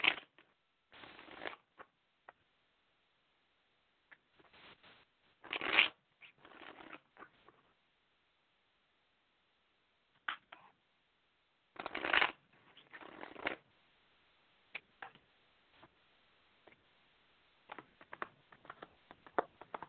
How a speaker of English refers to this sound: Yeah, okay. Go ahead and shuffle the cards.